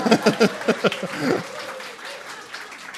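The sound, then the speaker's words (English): An audience applauds, a dense wash of many hands clapping with some vocal cheering at the start, then a softer, steady patter that trails off over a few seconds. “So you're clapping”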